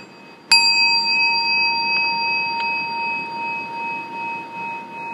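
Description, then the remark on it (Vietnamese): A meditation bell is struck once during a seated group meditation, a clear bright strike followed by a long, steady ringing tone that sustains and slowly wavers without fading much, heard alone with no talking. “Chúng ta lắng nghe tiếng chuông rồi mình hồi hướng.”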